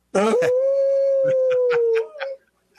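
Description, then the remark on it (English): A person howls like a wolf on a radio show segment supported by Howling for Wolves, one long steady howl held for about two seconds before breaking off, loud, with a few faint taps underneath. “you didn't howl with us”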